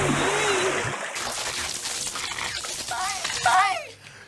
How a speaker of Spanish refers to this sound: ¡Esto es un cortocircuito y los cortocircuitos se apagan con agua! ¡Ahí va el agua!